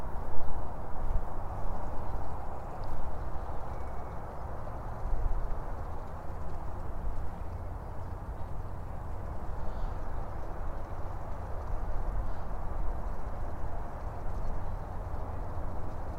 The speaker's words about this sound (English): And yet now I come upon a larger creek with water truly present and flowing this time. The gentle sounds of water tumbling and birdsong.